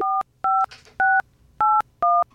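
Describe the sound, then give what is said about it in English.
Five quick touch-tone dialing beeps, each a crisp dual-pitched tone separated by short gaps, sounding clearly and steadily over faint background hiss with no talking, as a Kansas City phone number posted by the Eagles, which comes back to Richmond, Missouri, is dialed. “I dialed it.”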